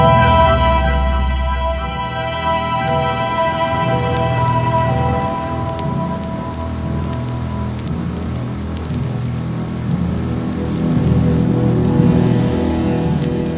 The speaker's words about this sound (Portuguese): Colocarei o carro ali, junto daquelas árvores. Assim, quem sair do sanatório não nos verá.